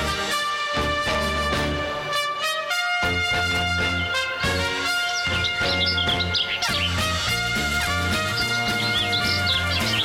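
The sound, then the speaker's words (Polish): Birds sing in quick, bright chirps and trills over steady, loud instrumental music, joining partway through and continuing to the end. “Ach, jak pięknie te ptaki grają, no.”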